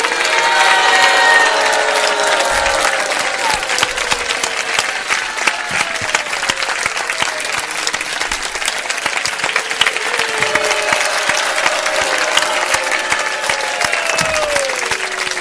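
A large audience bursts into sustained, thunderous applause honouring a person, filling the full fifteen seconds, dense clapping with a few scattered voices and cheers mixed in, loud throughout.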